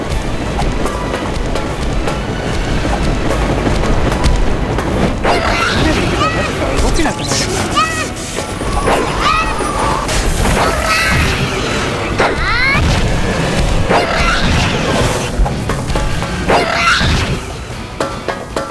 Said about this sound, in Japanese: 今タイミングがちょうど悪くて何発か食らいましたが、雷が落ちてる。このダメージもやたら高いですからね、雷の。